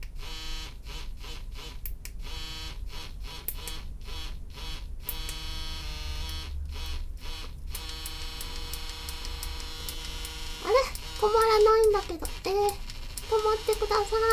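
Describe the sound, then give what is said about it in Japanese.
A vibrator's steady electric buzz, from its clitoral part with various vibration patterns, pulses in quick rhythmic on-off bursts, then settles into a continuous hum, with a person speaking briefly over it near the end. “逆回転と普通の回転、あとクリトリスの方は、はっ、いろんな振動パターンがあるみたいです。”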